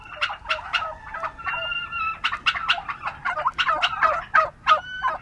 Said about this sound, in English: Turkeys can wander around a roomy pasture at Springfield Farm in Sparks, Maryland.